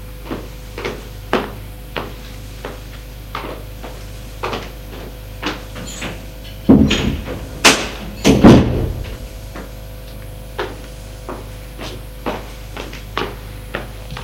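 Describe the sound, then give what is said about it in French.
Steady footsteps tap along at an even pace, then a door is opened with a louder clunk and creak partway through before the steps carry on. No one speaks. “Il a entendu des pas, une porte qui s'est ouverte.”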